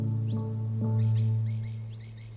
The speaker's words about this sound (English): But slow it down, and there's more than meets the ear. It turns out, hummingbirds do everything at warp speed. They even squeeze a whole song into a chirp.